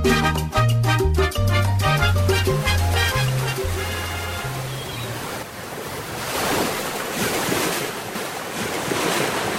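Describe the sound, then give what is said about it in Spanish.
A few seconds of mellow music give way to the steady wash of ocean waves and a soft sea breeze at a port in the late afternoon, rolling continuously and fairly loud until the end. “El sol de las últimas horas de la tarde abraza a Yarica, pero muy pronto la suave brisa del mar empezará a refrescar el ambiente y comenzará a llenarse de miles de luces que iluminarán la noche de este bello puerto”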